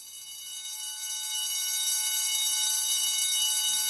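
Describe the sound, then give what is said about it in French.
A loud, continuous electric bell rings steadily for several seconds, signalling everyone to line up, a bright, harsh metallic clatter with no pauses and no voices over it. “Écoute, la sonnerie pour les petits oiseaux, tous se mettent dans l'ordre”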